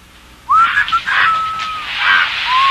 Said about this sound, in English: Stop squawking, you stupid bird. Eat it.